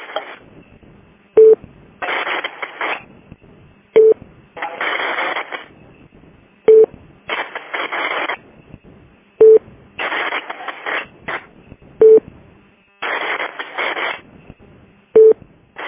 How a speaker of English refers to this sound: Is that just, is it just keying up with static? Because it's keying up with something. I just, that sounded like there was background noise and somebody might have been sitting on a microphone or something.